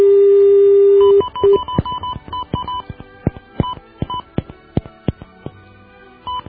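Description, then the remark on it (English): A steady dial tone hums briefly, then cuts to a quick run of touch-tone beeps as a phone number is dialed, short two-note tones spaced unevenly with faint clicks between them. “Oh, those magical numbers. This should connect us to something that will allow us to make our call.”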